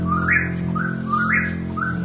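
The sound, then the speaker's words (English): A recorded whippoorwill call repeats in quick rising whistled phrases over sustained woodwind tones in a musical piece, the bird prominent and steady against a soft, continuous backdrop of woodwinds and strings. “… has a dreamlike quality, with woodwinds and strings answering the recorded night sounds of the whippoorwill and the great horned owl.”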